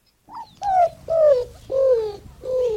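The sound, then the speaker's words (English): A greater roadrunner's cooing call: four soft, low coos in a slow, even series, each sliding slightly downward in pitch with a faintly whimpering quality. No voices are heard. “Bird experts know it as the greater roadrunner.”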